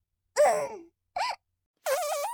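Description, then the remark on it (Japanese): Three loud fart bursts with a buzzy, tonal quality, separated by short pauses; the first trails off and the last one flutters and wavers in pitch. “ああ、いい音のが出ちゃいました。こういういい音のおならをすると、癖になっちゃいそうなんですよね。”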